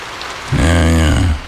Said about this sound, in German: Regen. Ewig grau. Müssen Sie sich das anhören? Also das müssen Sie sich nun wirklich nicht anhören.